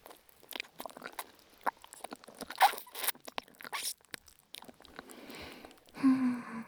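Wet chewing and slurping of smooth noodles, a quick run of moist clicks and sucking sounds, ending with a brief hummed voice.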